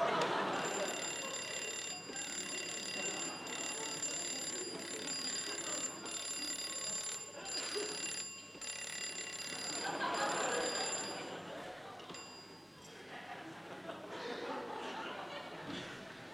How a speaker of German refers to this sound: Schon wieder Telefon?